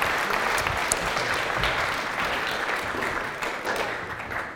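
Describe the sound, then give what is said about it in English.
A crowd of people applauds steadily for helpers, a dense wash of many hands clapping at once, fairly loud, holding even for several seconds before easing slightly toward the end. “Just give them a round of applause for helping.”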